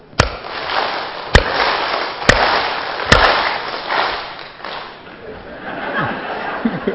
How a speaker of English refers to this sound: Now keep your hand like this. Everybody please do it. Yeah. If I clap, you will clap. If I don't clap, you will not clap. Watch me properly. Okay?